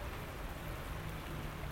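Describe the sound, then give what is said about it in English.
Steady morning rain falls on rubbish bins, upturned buckets and leaves, a dense, even patter of drops with a low background rumble, fairly quiet and continuous, with no voices. “rubbish bins and buckets, upturned buckets and the leaves. And my tea. The way it goes flip plop, though you can't really hear it, but you can see it.”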